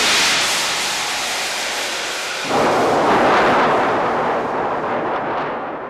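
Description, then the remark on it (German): A steady, hissing rumble builds, then a sudden loud crack of thunder bursts in partway through as lightning strikes the ground a hand's breadth in front of Kasperl's toes, rolling on as a heavy, roaring crash that slowly fades. No voices are heard. “Blitz fuhr hernieder und schlug eine knappe Handbreit vor Kasperls Fußspitzen in den Erdboden.”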